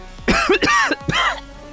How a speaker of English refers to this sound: But you see Yargan pales a little bit, and you wake up with a cough.